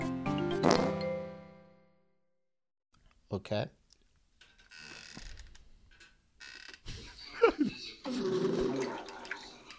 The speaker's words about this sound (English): This is an underwater fart.